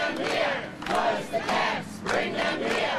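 A protest march through the streets of Melbourne against immigration detention centres outside Australia; many voices shout together in loud, rhythmic bursts of repeated phrases calling to close the camps and bring them to Australia, with brief dips between them, a dense roar of marchers.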